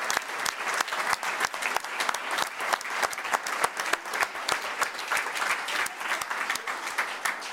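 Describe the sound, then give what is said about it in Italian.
Sustained applause from a sizable audience for the musicians, dense overlapping clapping that stays steady and fairly loud throughout, with no talking over it. “Un applauso anche generale ai nostri musicisti.”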